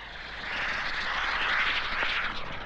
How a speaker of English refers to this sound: Pilotless drones have been used for years as targets for gunnery practice.